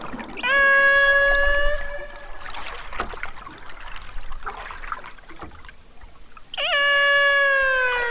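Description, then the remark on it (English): The call of a lone male Chugach transient killer whale, recorded in 2019, sounds twice: loud, drawn-out harmonic wails that swoop then hold a steady pitch, separated by several seconds of watery underwater hiss and crackle. No one speaks. “He says the distinct call is one he's hearing less and less as the population of whales dwindles.”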